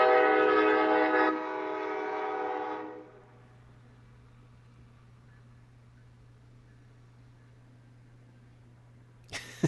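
A loud train horn blares with strong harmonic tones for a few seconds, then fades as the train rumbles steadily past on a nearby track, ending with a sharp clatter.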